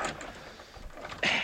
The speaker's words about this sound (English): The key doesn't always fit the lock.